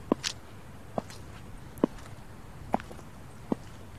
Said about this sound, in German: Komm, folge meinen Schritten zum Parkhaus.